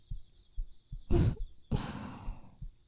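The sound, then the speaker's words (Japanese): A soft, steady heartbeat thumps low, its muffled beats spaced evenly, while two long breathy exhales rise over it. It is a person's heartbeat, felt through bodies pressed together under the same futon. “ほら、こうやって体くっつけてるとあなたの胸のドキドキが私のおっぱいにも伝わってきちゃう。”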